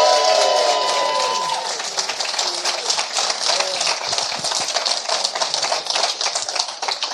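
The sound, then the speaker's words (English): A crowd applauds the panelists at the end of a show, in a dense, crackling wash of applause that lasts several seconds, with a few voices whooping at the start before it settles and thins slightly toward the end. “Round of applause for our panelists.”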